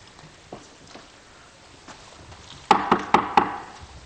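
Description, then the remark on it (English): Four loud, sharp knocks on a door in quick succession, each a hard thud, after a quiet stretch with only faint scattered taps in the background. “That's not the way you knock.”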